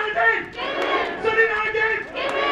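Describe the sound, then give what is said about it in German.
A large crowd of several hundred workers shouts together in a sustained, loud roar of many voices, swelling and dipping slightly, with no individual speech standing out. The workers are at a central union rally in late morning at the main plant of the auto supplier Mahle, in the Stuttgart region. “Mehrere hundert Beschäftigte haben sich hier am späten Vormittag versammelt.”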